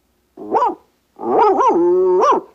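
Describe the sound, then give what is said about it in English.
A dog gives one short, sharp bark, then after a brief pause lets out a long, wavering howl that rises and falls in pitch, loud, as a coded signal passing on a message. “One long howl, two short, one yip and a woof.”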